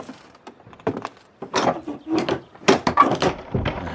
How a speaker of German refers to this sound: Abgeschlossen. Sag bloß. Die Tür ist zu. Han ich schon probiert.